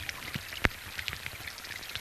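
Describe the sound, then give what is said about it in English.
Raindrops patter on rainforest leaves in a scattered, irregular rhythm, one sharp drip standing out over a soft, steady wash of rainfall. “imagine, if you're in a rainforest and all of a sudden it starts raining and you hear the droplets hitting the leaves and everything around you.”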